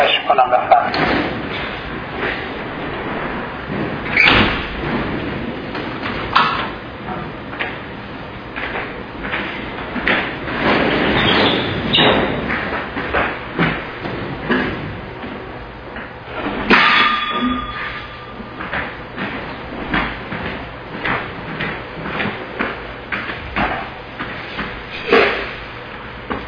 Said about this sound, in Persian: اجازه بدید اینجا چون طوفان شده من این پنجره رو ببندم که ممکنه این سر صدا شما رو اذیت بکنه، یه لحظه عذرخواهی میکنم.